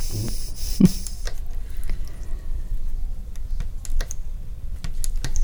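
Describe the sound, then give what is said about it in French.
Quick, crisp clicks of a Lunéville tambour hook punching through silk organza as beads threaded on a spool are set one by one, coming in an irregular stitching rhythm, fairly quiet over a low background hum, with no talking. “On entend le tic-tac du crochet.”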